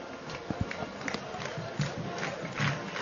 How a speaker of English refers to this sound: And the crowd getting into it now as they are clapping on rhythm with the marching band.